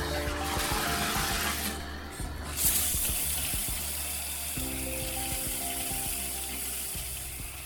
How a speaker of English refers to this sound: do you feel cleaner now, or do you feel like you're covered in all those microbes that came out of the shower head there? No, I do feel clean, and I am not bothered by what is coming out of the shower head.